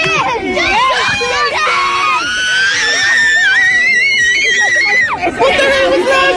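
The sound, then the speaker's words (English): A crowd of fans screams in loud, sustained excitement as Justin Bieber shows up to play a game of basketball in Terranure, with one high child's shriek rising and holding above the rest before the din breaks and surges again. “Did the child just explode?”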